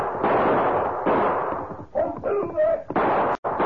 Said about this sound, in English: He spurred his horse frantically, but his pursuers kept gaining on him until finally they were within shooting range. Snatching his gun, he turned in the saddle and fired.